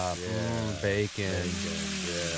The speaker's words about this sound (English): So please enjoy 6 seconds of sizzling bacon.